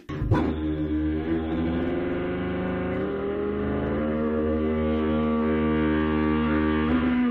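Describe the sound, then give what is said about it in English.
A tuba plays multiphonics, the player singing into the tuba while buzzing the mouthpiece, so a low brass note and a sung pitch sound together, making a buzzing, beating chord that holds steady and loud for about seven seconds after a sharp attack. “Demonstrate what's called multiphonics, where you can sing a note and play a note at the same time.”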